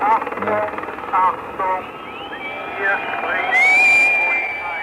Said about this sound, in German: Jetzt kommt der Hubschrauber ganz tief an den einen Turm. Oh je, das wird aber gefährlich. Da sitzt nämlich einer auf dem Dach.